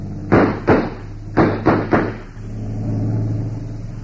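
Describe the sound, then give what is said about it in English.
A run of five sharp, loud bangs comes first, then a boat engine steadily revs up, its low droning rumble swelling and holding as the craft pulls away. “We're pulling out of here. Stop that boat!”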